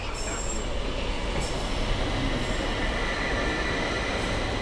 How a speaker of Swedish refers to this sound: Kommer man høre når tågen kommer? Ja, det tror jeg nok. Det tror jeg nok, for det at de har jo sin egen veldig distinkte lyd som er lett å kjenne igjen.